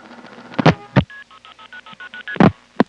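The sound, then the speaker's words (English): Crossbar telephone exchange multifrequency signaling, a side-by-side comparison of a number one crossbar end office and then a local crossbar: a quick, evenly paced run of about ten short two-tone beeps, framed by several loud switching clunks before and after, with no talking. “The first ta-da-da How do you do that? Was the crossbar one end office. The second one was a local crossbar.”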